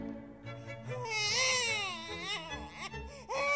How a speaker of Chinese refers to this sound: 突然，树屋中传来了婴儿的哭闹声，这个哭声惊动了在树下的凯拉，在不远处狩猎的克莱敦也听到了